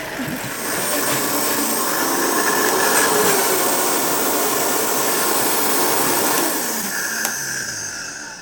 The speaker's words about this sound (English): Okay, so just a few splashes of coconut milk into the blender to help it move along when you blend it. And go. Beautiful sound.